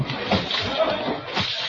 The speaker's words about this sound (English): What was that? I heard a splash. A splash? Oh, really, it was nothing. Possibly a porpoise playing about the ship.